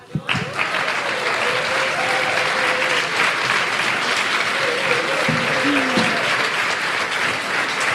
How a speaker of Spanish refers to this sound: Y bueno, y el ganador, como verán en las redes sociales, un fuerte aplauso para él, es el señor...